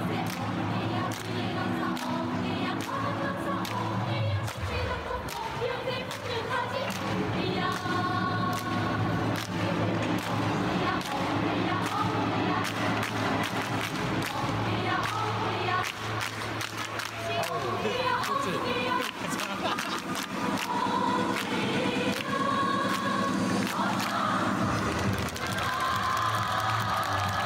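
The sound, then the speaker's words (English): A large North Korean cheer squad in red uniforms, in South Korea, chants and shouts in unison, loud and sustained, with steady rhythmic pulses and bursts of massed voices carrying on for the whole stretch. “Then there's the North Korean cheer squad”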